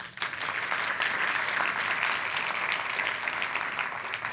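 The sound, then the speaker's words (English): An audience at a talk on women in emergency medicine claps steadily for Dr. Dara Kass and the members of FEMINEM for a few seconds, a dense, even patter of many hands at a constant loudness from start to finish, with no voices heard over it. “A quick round of applause.”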